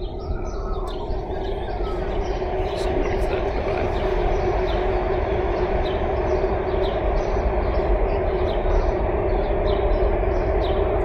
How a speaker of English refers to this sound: Never realized how much that train goes by until I started to try and make recordings of people. It's a lot.